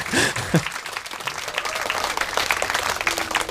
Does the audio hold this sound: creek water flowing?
no